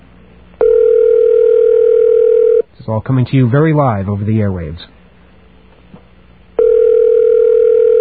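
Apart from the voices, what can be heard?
telephone line ringing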